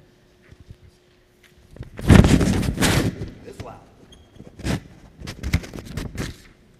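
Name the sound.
thunder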